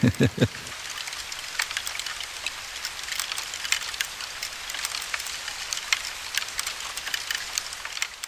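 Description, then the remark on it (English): Woodworms eating inside a piece of wood, a found object, make a dense, irregular crackle of tiny clicks and ticks, steady throughout, with a brief murmur of voice at the very start. “And what you hear is the noise the worms are making while eating.”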